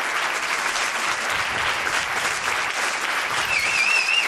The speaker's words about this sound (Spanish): Aplaudan menos que tiene que tocar más cosas. Claro, que si no nos quedamos sin tiempo.